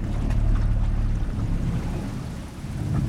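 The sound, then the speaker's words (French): A steady low rumble of a small boat motor churning along a small branch of a river, passing under branches that skim the water, with faint water sounds and a constant engine drone, no voices. “On a bifurqué dans un petit bras de rivière et on va passer sous les branches.”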